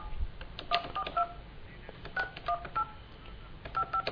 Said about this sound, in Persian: بله ما داریم با تلفن همراه آقای هاشمی تماس میگیریم ببینیم که بالاخره ایشون نظرش چیه در مورد برنامه کلمه طیبه